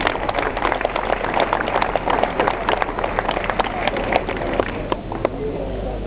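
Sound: applause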